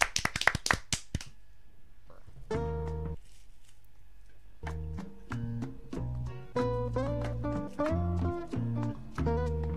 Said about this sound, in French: Merci beaucoup. On l'applaudit.